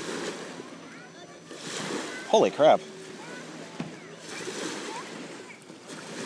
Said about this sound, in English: So I'm assuming the waves are just coming from the boats. Yeah.